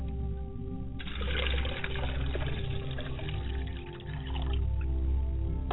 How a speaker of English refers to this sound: As we pour water to the ground, we hope that the ground will be fertile, and wherever the ground hits, where the water hits the ground, it will take root and spring up in the hearts of man all over the diaspora.